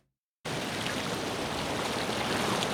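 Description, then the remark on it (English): After a brief moment of silence, the steady rush of the Penobscot River in Pembroke, Maine, starts abruptly. It continues as an even, full-bodied hiss with no voices. “This is an audio postcard of the Penobscot River in Pembroke, Maine, and we are here with Idea and Smithereen Farm and learning about alewives.”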